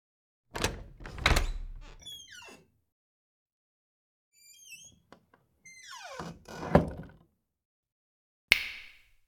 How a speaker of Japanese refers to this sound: あなたはドアを開けます。